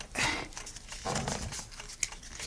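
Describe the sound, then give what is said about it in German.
Quiet scraping and crinkling of a paper knife slicing through a small cardboard matchbox, in a few short rasping strokes with a brief sharp snap near the end. “Aber was hat das alles mit dieser Streichholzschachtel zu tun? Und was machst du da eigentlich mit dem Papiermesser”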